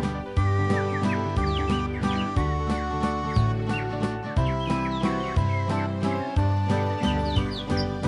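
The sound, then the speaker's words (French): Sampled birdsong with quick, repeated high chirps and tweets, woven throughout a steady music track with deep, pulsing bass notes, clear and fairly loud with no talking. “Ils sont payés un sample d'oiseaux.”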